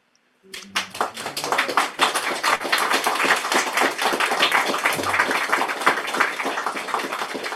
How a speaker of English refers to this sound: Thank you for the lovely applause.